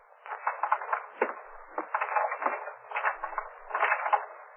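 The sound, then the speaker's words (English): Keys jangle and scrape against a garage door lock in quick bursts of small metallic clicks and rattles, continuing unevenly for several seconds with no voices. “Oh, darling, toss me the keys to the garage, will you? So I can open the doors for you.”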